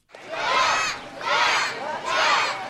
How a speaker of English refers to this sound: Here he comes! With cheering kids from the Boys and Girls Club lining Rehoboth Avenue, Markell completed the trip he started on June 18th in Astoria, Oregon.